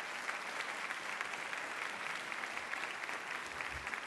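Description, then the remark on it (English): A debate audience claps steadily for the panelists after their presentations, a dense, even wash of many hands with no voices rising above it and no breaks in the applause. “And may we just applaud all of our panelists for the presentations that they've been through.”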